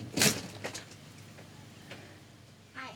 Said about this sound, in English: There's a small religious statue near her door. I'm not sure anybody's home. Hello? somebody's opening the door.